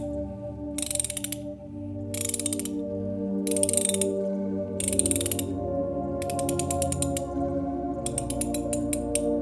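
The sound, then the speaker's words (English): A torque wrench ratchets in several short bursts of rapid clicking that grow quicker and more continuous near the end, over a steady low mechanical hum. No one speaks. “Could you hand me the torque, Captain?”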